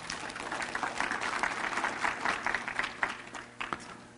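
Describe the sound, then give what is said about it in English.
An audience applauds a woman steadily, a dense wash of clapping that holds for several seconds before thinning out, with a few louder individual claps near the end. “Give her a big hand clap.”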